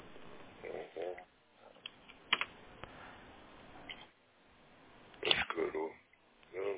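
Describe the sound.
A few scattered, irregular clicks of typing on a computer keyboard as the command "ping yandex.ru" is typed, with a person talking quietly over the keystrokes.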